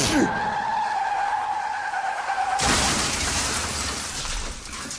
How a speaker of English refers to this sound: Audio of the crash.